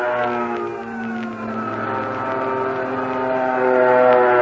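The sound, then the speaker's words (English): A fighter plane roars past with a loud, steady engine drone that swells slightly toward the end, heard on its own with no voices. “And there goes another.”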